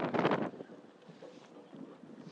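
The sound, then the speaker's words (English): A loud gust buffets the microphone with a rough, blustery roar for about half a second, then eases into a softer, steady wind rumble with small flurries. “Got windy right now.”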